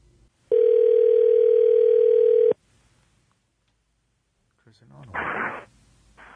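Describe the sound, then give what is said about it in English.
A loud, steady telephone dial tone for an incoming call hums unbroken for about two seconds, then cuts off into near silence before a brief burst of muffled voice. “We are going to start with a phone call.”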